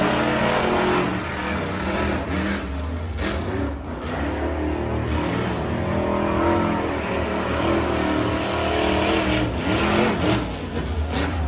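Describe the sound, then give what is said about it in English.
Monster truck engines at a monster truck show roar and rev loudly and continuously, a dense, rumbling wall of motor noise with rising and falling throttle. No one speaks. “The Monster Truck Insanity Tour is in their 10th year.”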